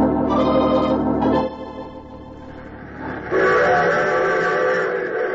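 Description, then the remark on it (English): A train rumbles along with a loud, sustained whistle blast, fading briefly before a second long whistle sounds over the steady clatter of the running train. “Used to be a conductor right on one of these trains.”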